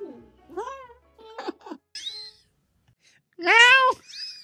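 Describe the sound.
A person on the program Bájale 2 imitates a cat, letting out several rising and falling meow-like cries in short bursts, the loudest and longest near the end. The cries are clear, with no other talk.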